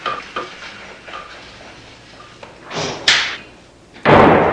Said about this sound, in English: Michael opens a heavy door. The nurse quickly helps him navigate the bed through it and into a utility room.